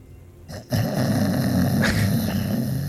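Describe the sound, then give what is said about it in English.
A man sleeping on a couch snores with a deep, rough, loud rumble, starting after a brief shuffle and continuing steadily as a low, growling drone with no talking. “And it's not long before you hear him just snoring deeply.”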